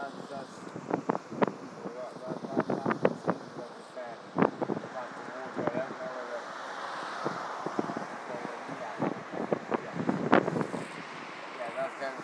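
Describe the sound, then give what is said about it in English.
Water surges through more than one arch of a thick-built bridge, in rain, in a steady, broad rushing roar, with irregular louder splashes and swells breaking through and faint indistinct voices underneath. “Yeah, because that's not just one arch that's surging through listening to that.”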